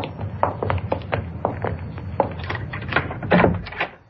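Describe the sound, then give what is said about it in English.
A key rattles and clicks in the lock of a shut door with a series of short metallic and wooden knocks, then the door is pushed open, moderately loud, with no talking. “There's the door. It's shut.”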